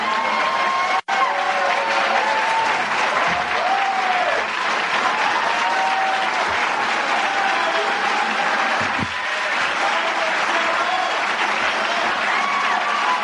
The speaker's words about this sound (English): Listen, they're applauding the man as though he cured polio.